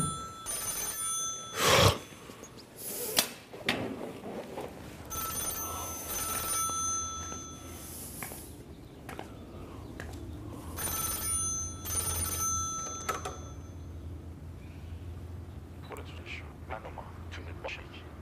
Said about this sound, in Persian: گوشی رو بردار ببین کیه.